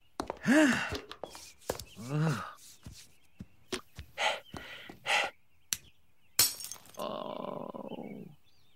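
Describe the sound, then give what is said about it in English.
Breathing, squeaky rubbing of a glasses lens and scattered clicks lead up to a brief, sharp little smash as the lens falls out and breaks, with vocal groans before it and a droning tone afterward. “The breathing and then the rubbing of the glass and then the lens falling out and you just hear a little smash.”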